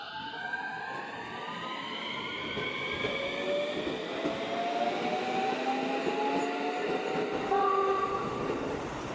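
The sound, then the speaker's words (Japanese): A train pulls away from Nyuto Onsen station and rolls steadily along the rails, a continuous rumble with rising whining tones from the motors and wheels, fairly loud throughout, with no voices. “入湯温泉発車いたします。”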